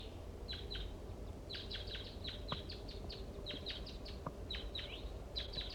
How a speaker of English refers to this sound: recording a wild bird.